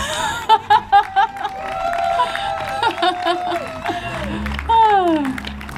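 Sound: crowd applause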